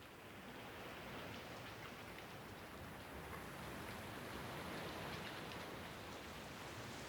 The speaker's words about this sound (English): Rain, rain, go away. Come again another day.